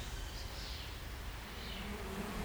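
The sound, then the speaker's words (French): Bees in the Parc du Coteau buzz steadily and softly, a continuous droning hum with slight rises and falls in pitch, heard alone without any voices over it. “Les abeilles du parc du Coteau.”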